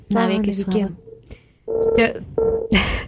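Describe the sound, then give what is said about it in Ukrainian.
Electronic telephone line tones from a listener's call to a radio phone line that fails to connect, sounding in short steady bursts, a few beeps with brief gaps between them, clear, mixed with some voice-like harmonic sound at the start. “дорогі слухачі, які телефонує на наш номер телефону 098, все ніяк, нам якось не вдасться з вами поспілкуватися”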